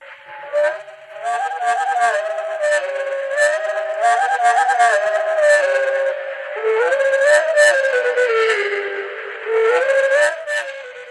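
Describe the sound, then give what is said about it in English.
Bird song slowed down into low, drawn-out whistling tones that glide up and down, with rich harmonics, in several long continuous phrases separated by brief pauses, with no talking. “Okay, that's what you would hear if you were with the bird. But when you slow it down, listen again now.”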